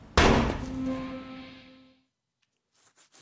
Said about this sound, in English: So that exchange, as you heard, is cut off by the sound of a gunshot. There's been a shooting in the ATN headquarters, and this is where the episode pivots.